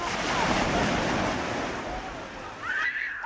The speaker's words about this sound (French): Il a fallu se lever tôt et rouler quelques heures avant de pouvoir découvrir ou redécouvrir la mer et le bruit des vagues.